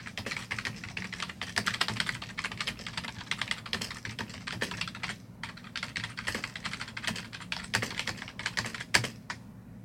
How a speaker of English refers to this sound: So what I'm going to do is I'm going to ask you some questions and if you don't mind just typing your answers up there. Is that okay?